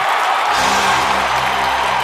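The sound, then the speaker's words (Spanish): A crowd claps steadily and loudly for about two seconds for Jaime Peñafiel as he collects an award, a dense wash of overlapping hand claps, with a low sustained tone entering beneath it partway through. “¡Fuerte el aplauso para don Jaime Peñafiel!”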